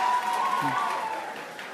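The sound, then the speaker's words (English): A steady wash of audience applause, dense and fairly loud, with a brief voice cutting through partway; the clapping holds even and then eases slightly toward the end. “One more round of applause for her.”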